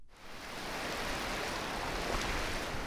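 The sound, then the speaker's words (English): Clear ocean waves foam up and wash onto the white sand of Siesta Key Beach in Sarasota County, Florida, on a sunny October day, a steady, fairly loud hiss of surf that swells in during the first second and then holds constant, with no voices. “Clear waves foam up and roll onto the white sand of Siesta Key Beach.”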